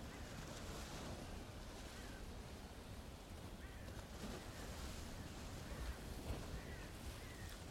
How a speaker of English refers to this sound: It may be helpful to imagine the ocean waves. And with the in-breath, it's like the ocean wave coming in, and the out-breath, the wave recedes. As we focus on the in and out with the ocean waves.